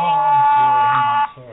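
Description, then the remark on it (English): A mobile phone rings with a steady, buzzy electronic tone rich in overtones. It holds loudly for just over a second, then cuts off abruptly, with a voice faintly underneath. “There goes my phone.”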